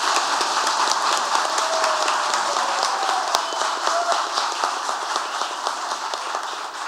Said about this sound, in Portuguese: Em nome da Câmara Municipal de Ouro Preto, em nome de todos os vereadores, mais uma vez peço uma salva de palmas a todos vocês e agradeço pela presença.